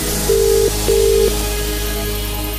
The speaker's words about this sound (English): It could be your phone ringing right now.